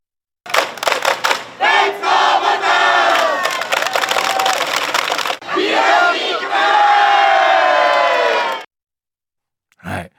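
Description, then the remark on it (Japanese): Kumamoto Volters basketball boosters, among about 350 fans at a public viewing, huddle outside the venue before game 2 against Chiba and roar a rallying cry in unison, two sustained loud shouts separated by a brief break, followed by a short final burst after a pause. “まあ、ここにもパブリックビューイングが350人のファンがね集まってまいりましてですね、試合の前にはですね会場の外でなんとエンジンを組んでブースター規制を上げたんですよ。”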